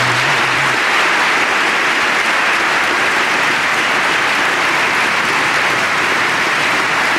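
Loud, sustained crowd applause fills the whole stretch, a dense steady wash of clapping hands with no pauses and no voices rising above it.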